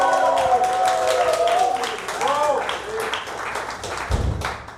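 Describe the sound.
A crowd applauds and cheers loudly and steadily, with whooping voices rising and falling over a dense patter of clapping, then a low thud near the end, as the audience votes for a contestant by the classic applause method.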